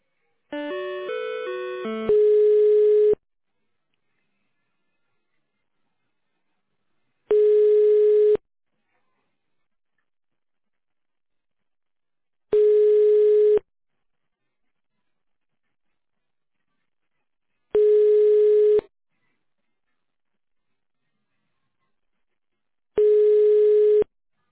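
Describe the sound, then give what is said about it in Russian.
A telephone ringback tone, heard while waiting for an operator after a car service centre's automated phone menu, repeats five times, each steady, mid-pitched buzz lasting about a second with roughly four seconds of silence between, after a brief burst of electronic sound at the start. “Или дождитесь ответа оператора.”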